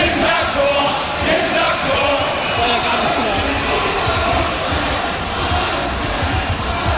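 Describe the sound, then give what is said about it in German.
A large crowd of about 2000 spectators roars and shouts continuously at a charity ice hockey game played by RWTH professors and students. It is a dense, steady wall of cheering voices with no pauses across the whole stretch. “Mit dabei waren gestern Abend gut 2000 enthemmte Zuschauer und jede Menge kleiner Gemeinheiten.”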